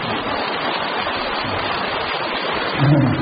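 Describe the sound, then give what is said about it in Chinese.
An audience at a talk in Malaysia applauds steadily, the many hands merging into a dense, hissing wash of clapping that holds an even loudness for about three seconds and swells slightly near the end. “台长鼓掌吧。”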